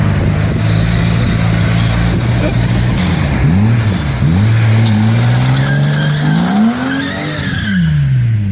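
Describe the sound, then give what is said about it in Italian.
Loud engines rev and rise in pitch while tires squeal in long, wavering screeches as cars drift in a drift competition at a car meet in Gostivar, with a steady roar of motor noise throughout. “In Gostivarce c'è un raduno di auto e là ci sono drift e il vincitore di questa gara di drift riceve un premio alla fine.”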